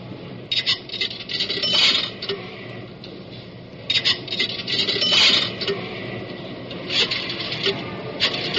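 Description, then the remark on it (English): Nickels clink and rattle into a pay phone in short metallic bursts, with bright jingling over a steady low hum and scraping. “Oh, yes, it says deposit a dime or two nickels. Well, wait till I get this other nickel out of my pocket.”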